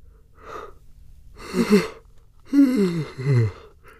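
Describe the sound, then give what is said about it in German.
A person yawns: a short breathy intake, then a long drawn-out voiced groan that slides downward in pitch before trailing off. “Wenn man jemanden gähnen sieht, wenn man nur davon liest oder es hört, reicht das oft schon aus und man macht es nach.”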